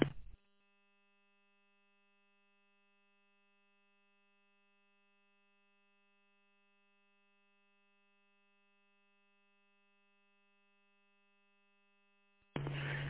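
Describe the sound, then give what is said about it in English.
A brief, buzzy radio roger beep bursts out at the very start, then a long near-silent stretch with only a faint steady hum, and another short harsh burst ends it. “I think you could do us all a favor and turn off the Roger beep.”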